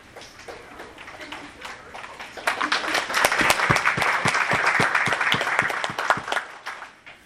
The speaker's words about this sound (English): Thank you for the hand clap.